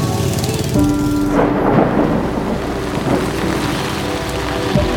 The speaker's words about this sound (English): And then, as if on cue, the day darkened and the rain came.